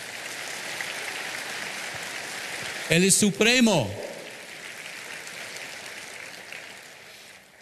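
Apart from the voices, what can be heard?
audience applauding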